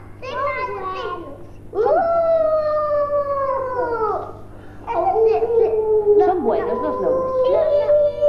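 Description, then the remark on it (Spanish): Several children's voices howl like wolves in long, wavering, overlapping cries, pausing briefly and starting up again, with some babbling mixed in. “¿Son vos los lobos o son malos?”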